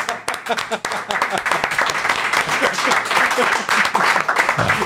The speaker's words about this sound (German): Ich muss leider sagen, ihr wart dann 2 Sekunden zu spät mit dem Applaus.